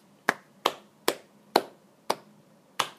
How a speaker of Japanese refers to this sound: はい、拍手が鳴り止んだところでね